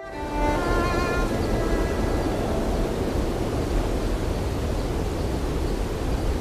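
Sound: wind blowing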